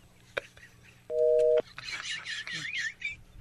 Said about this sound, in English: The fact that she dropped the phone on us is even better. She seems so annoyed that, like, man, she's like, on Cube, click. Done and done.